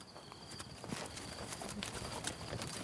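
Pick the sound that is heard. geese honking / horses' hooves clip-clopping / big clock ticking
horses' hooves clip-clopping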